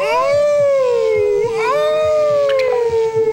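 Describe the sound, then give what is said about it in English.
A person lets out a long, loud wolf-like howl, a sustained wavering tone that dips and rises again, lasting a few seconds with no other talking. “Let's give it a proper Count Floyd intro. Ready to howl?”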